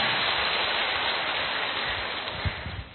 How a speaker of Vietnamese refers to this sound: Cố một lại một vòng nữa xem cả hội trường xem nào, xem nó có cái khí thế gì hơn không? 2, 3. Rồi, cho một chàng pháo tay thật to.